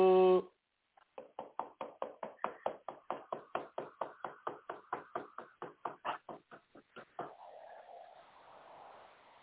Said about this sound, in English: Man, see every time he be damn playing a game, man, somebody knocking at our door, man.